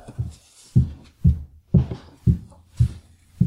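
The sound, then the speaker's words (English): A woman's high heels climbing the staircase of a home: about seven steady, evenly spaced footfalls, each a solid thud with a sharp click, at a brisk regular pace with no talking. “That's my wife's high heels going up our staircase.”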